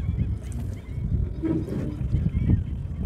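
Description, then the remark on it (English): A voice imitates a swirling whirlpool with a low, continuous gurgling rush lasting about three seconds, fairly loud, with a brief honking vocal tone partway through. “It'll go like this, whirlpool.”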